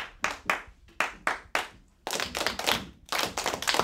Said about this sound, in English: A Sugar Creek Elementary School class in Bentonville claps in rhythm this morning, a means to obtain focus for their next assignment.